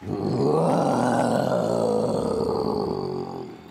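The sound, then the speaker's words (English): A human voice imitates a Tyrannosaurus rex roar in a roaring contest: one long, loud, growling bellow lasting over three seconds, rising slightly then fading, with no talking. “The Tyrannosaurus Rex has one of the loudest and longest roars around.”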